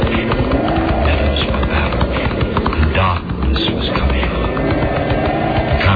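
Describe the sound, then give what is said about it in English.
Rapid, steady hoofbeats of a fast ridden horse galloping down a castle road on a hard surface, loud, with a dense rhythmic clatter filling the whole stretch. “He dressed, armed himself with a short dagger, and ordered his fastest horse. He thundered down the castle road off to the west”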